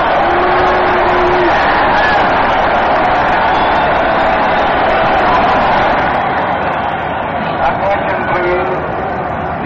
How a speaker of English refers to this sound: There go the Yankees trotting out onto the field, and now the ball game is going to get underway. Just listen to the cheers for the Yankees for a moment.